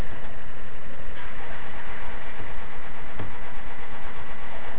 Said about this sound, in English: Driving my car down. We all drive.